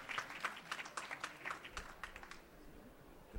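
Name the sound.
short audience applause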